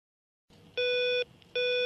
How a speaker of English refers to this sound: After a morning pressing buzzers and getting no reply, just after midday I thought, what's the worst that can happen here?